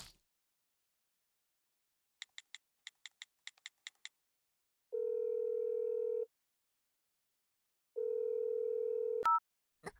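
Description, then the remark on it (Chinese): A quick run of about ten phone keypad beeps as a woman calls her husband, then two long steady ringback tones separated by a pause, ending with a sharp click as the line connects. Clear, no talking. “我这就打电话给我老公”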